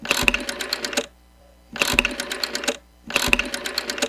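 An old rotary telephone being dialed: three bursts of rapid mechanical clicking, each about a second long with a soft thud at the start, separated by short silent pauses. It is clear, with no talking.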